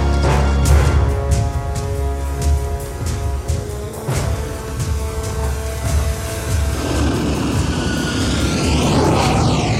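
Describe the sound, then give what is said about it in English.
Aircraft engines drone loudly and steadily in flight, a dense rumble layered with whining tonal hums that shift and sweep in pitch partway through. No voices are heard. “But we're in midair! You'll shut down the engines!”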